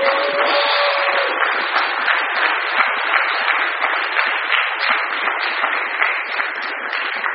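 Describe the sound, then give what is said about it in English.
An audience breaks into sustained applause, a dense, steady wash of many hands clapping at once that holds at an even level for several seconds with no voices over it. “Folks, that deserves not only applause, I don't know what else to do.”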